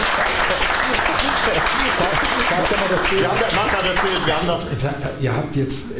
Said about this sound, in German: Ihr habt euch so gebrieft, hat wieder geklatscht. War gar kein Grund zum Klatschen.